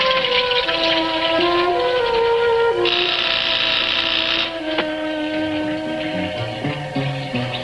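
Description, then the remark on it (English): A harsh, steady electric buzzer drones for several seconds, its raspy tone holding at a constant level over a sustained, shifting harmonic hum. Nobody speaks. “Hearing the buzzer, the professor hurriedly washes the blood from his hands in water that flows from the mouth of a gargoyle.”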